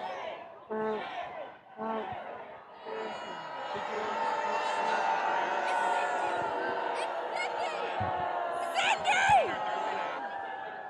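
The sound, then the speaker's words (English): A crowd of protesters shouting and cheering together outdoors in front of the Trump Hotel, on the way to the White House, a dense sustained roar of many voices with occasional louder whoops rising above it, loud throughout. “People are just protesting in front of the Trump Hotel on the way to the White House.”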